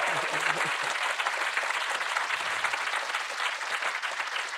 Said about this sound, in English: Our guest today, get ready to clap again